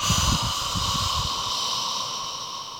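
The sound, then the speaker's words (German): A long, audible exhalation through an open mouth during a simple breathing exercise, a steady breathy hiss that lasts almost three seconds and fades slightly near the end, with no talking. “Wieder ein, macht den Mund auf und macht den laut.”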